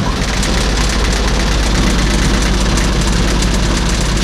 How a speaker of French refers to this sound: on est dans un camion militaire qui date de quelle année? Il est de 1957.